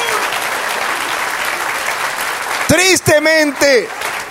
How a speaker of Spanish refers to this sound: Sí, dale aplauso. Amén.